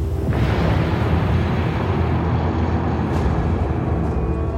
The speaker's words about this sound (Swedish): Sekunden därpå hörs en explosion.